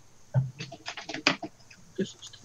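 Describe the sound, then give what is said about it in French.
Quiet typing on a computer keyboard, writing a note in an internal chat: a quick, irregular run of about a dozen light key clicks and taps over a couple of seconds, with no voices. “Attends, que si j'écris pas, je vais l'oublier. Je l'ai écrit dans le chat interne.”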